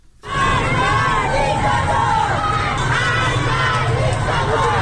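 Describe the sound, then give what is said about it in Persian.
A protest crowd in Tehran, Iran, shouting together in a loud, sustained roar, with many overlapping voices rising and falling in a rough chant-like rhythm, filling the whole clip without a break. “به چند صدای اعتراضی در مناطق مختلف تهران گوش کنیم.”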